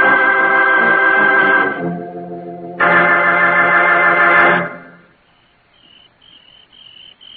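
A cricket chirps: two loud, sustained buzzing trills give way to a softer, steady run of short repeated chirps that trail off quietly, with no one speaking.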